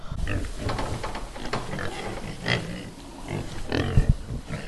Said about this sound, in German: Oha. Dieses Dit-Dit-Dit waren wir nicht. Das waren die Schweine.